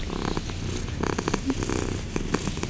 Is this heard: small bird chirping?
no